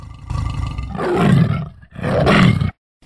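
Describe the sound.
A person imitates a tiger with two loud, growling roars, each swelling and breaking off, separated by a brief pause and followed by silence.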